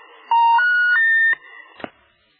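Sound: phone line tone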